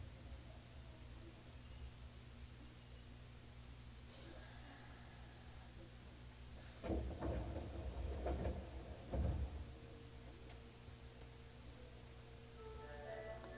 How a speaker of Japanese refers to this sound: 右側の扉が開きます。ご注意ください。